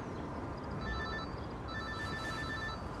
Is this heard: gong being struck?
no